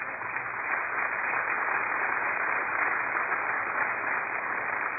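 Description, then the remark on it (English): A crowd gives the Lord a round of applause, clapping steadily for several seconds, a dense, even wash of applause that holds at the same loudness from start to finish, with no voices breaking through. “Would you just give the Lord a round of applause?”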